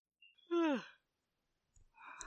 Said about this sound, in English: I heard that, …. Sorry. You're yawning.